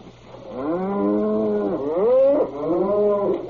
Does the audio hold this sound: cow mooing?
yes